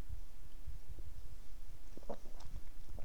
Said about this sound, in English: Excuse me, I'm just going to have a sip of my beer.